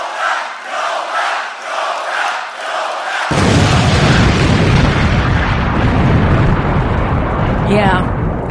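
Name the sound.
explosion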